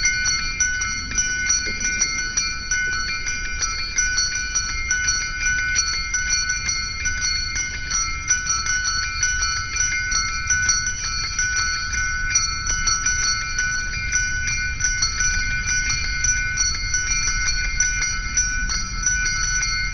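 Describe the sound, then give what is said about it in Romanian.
Church bells, a 'prayer of the bells' from an album played in a Christmas music program on Radio Free Europe, ring steadily for the whole stretch, their bright overlapping tones sustained over a constant low rumble, with no pauses and no voices. “Această rugăciune a clopotelor de pe discul …”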